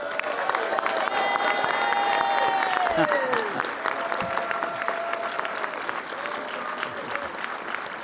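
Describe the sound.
A sustained burst of audience applause, dense and steady clapping for about eight seconds, with a few faint voices and cheers mixed into the crowd noise.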